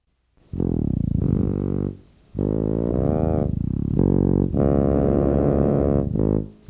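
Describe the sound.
Someone imitates an elephant with three loud, sustained, buzzing trumpet-like calls whose pitch wavers and bends, separated by short pauses, with no talking.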